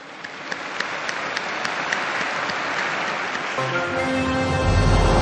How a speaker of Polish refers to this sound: Oklaski dla nowego błogosławionego. Un applauso al nuovo beato.